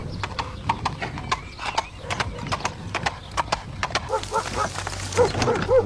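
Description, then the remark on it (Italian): A fake horse-hoof clip-clop effect in a film, for hooves on sand: a steady run of sharp, hollow knocks in a trotting rhythm, fairly loud throughout, with busier background sounds joining in over the last couple of seconds. “Che belli i zoccoli finti.”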